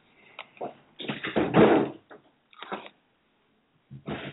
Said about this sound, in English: I'm actually an adoptive mother. That was my adoptive son knocking on the door.